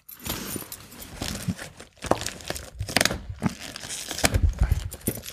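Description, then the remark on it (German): Someone wrestles with a stubborn package, producing continuous crinkling and crunching broken by sharp tearing bursts in an uneven rhythm, fairly loud, with no talking. “Das in der Mitte ist ein garstig widerspenstiges. Kann man das ja nicht, hast du nicht einen Schlüssel, mit dem man das vielleicht aufmachen kann?”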